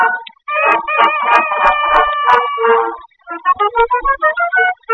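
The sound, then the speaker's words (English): A rooster lets out a loud, drawn-out cock-a-doodle-doo, followed by a quick run of short, choppy clucks. No one speaks. “And when I want eggs for my breakfast now, she makes me cock-a-doodle-doo.”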